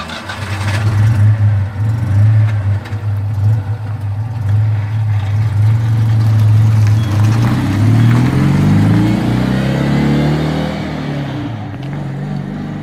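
A Citroën 2CV engine starts and settles into a steady low idle, then revs up with rising pitch before easing back down. It is loud and alone, with no talking.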